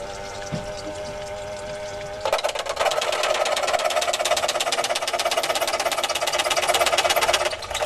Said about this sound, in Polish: ale wykorzystałem kompresor lodówki i silniczek od maszyny do szycia.